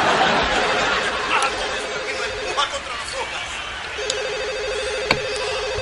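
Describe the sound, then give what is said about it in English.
A telephone rings unanswered, deliberately left ringing to screen calls, in two long electronic trilling bursts separated by a short pause, fairly loud, over a steady murmur of background chatter. “You know, I figure if I'm always answering the phone, people will think I don't have a life.”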